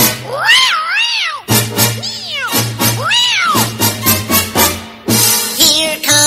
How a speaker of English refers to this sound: Meow, meow.